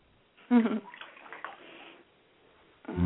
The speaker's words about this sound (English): I love hearing that warm water lapping.